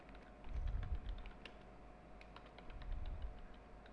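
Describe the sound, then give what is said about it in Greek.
Rapid, irregular keystrokes on a computer keyboard as a thesis document's title, 'History of Libraries', is typed into the Description tab of the File > Properties dialog; moderately quiet, with a low background hum and no talking. “Πάμε το μενού Αρχείο, Ιδιότητες και στην καρτέλα Περιγραφή εισάγουμε τον τίτλο του εγγράφου μας.”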